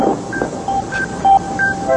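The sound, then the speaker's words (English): A bus pulls in: a steady low engine rumble with several short, high-pitched brake squeals coming in bursts, fairly loud throughout, with no voices. “Ooh, that sounds like the bus has arrived.”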